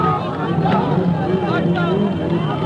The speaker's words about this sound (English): The crowd chanted, Allahu Akbar, God is great, and raced along with the motorcade trying to get a glimpse of the Ayatollah. The streets were lined with literally millions of supporters.